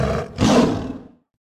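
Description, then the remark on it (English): Raja, Princess Jasmine's tiger, lets out one loud roar lasting just over a second, a rough growling start swelling into a full bellow that fades quickly into silence. “Deep in the Arabian desert, Princess Jasmine lived with her father, the Sultan of Agrabah, and her tiger, Raja.”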